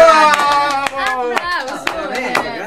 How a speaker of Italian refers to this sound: Sì? Davvero? E questa è una notizia così, applauso!